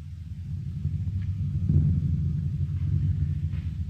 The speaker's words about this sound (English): A thunder drum being struck continuously.